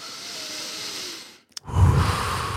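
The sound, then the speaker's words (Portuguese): A slow, deep breath, taken as a shared breathing exercise, is drawn in with a soft airy hiss, a brief pause, then a fuller, louder exhale rushing out, with no talking. “Imagina, ok, primeiro vamos respirar fundo. Tu vais estar a ouvir isto, vamos fazer uma respiração em conjunto.”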